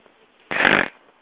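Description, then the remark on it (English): A person makes a single loud, rough snorting oink in imitation of a pig, a short buzzy burst lasting under half a second, with quiet before and after. “I like making piggy noises.”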